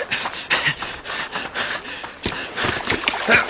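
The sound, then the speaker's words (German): Water splashing in a series of uneven, hissy bursts as a ball rolls into the water, with a louder burst of splashing toward the end and no voices. “der Ball rollt ins Wasser.”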